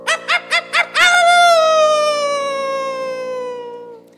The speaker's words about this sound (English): A howl like that could only belong to one animal. Dingo.